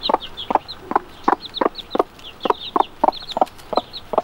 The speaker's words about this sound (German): Genau, man hört ja also immer so ein leichtes Gluck, Gluck, Gluck, wie so ein Wasser, das ja plätschert und auch gluckst. Und so macht die Henne eben auch.